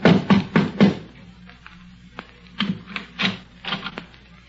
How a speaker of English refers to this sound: A half hour later, the doctor and his credulous patient mounted the steps of the porch of the Underwood home together. The doctor knocked at the front door.